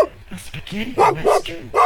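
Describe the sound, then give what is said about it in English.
A pack of dogs bark in a rapid run of sharp, loud barks, several overlapping yaps packed into a couple of seconds with a busy, agitated rhythm. “The dogs are still barking, making quite a bit of noise.”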